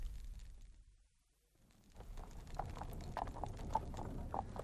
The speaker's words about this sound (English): A very expensive carriage. Superb horses and a liveried footman.